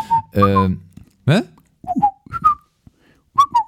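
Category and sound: human body sound, person whistling a tune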